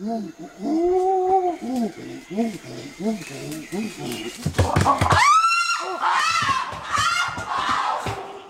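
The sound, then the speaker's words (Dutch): A chimpanzee hoots in a rapid, rising series of panting calls, then breaks into loud, shrill, hysterical screams that rise and fall for several seconds. “Kunnen nog één hysterische aap doen?”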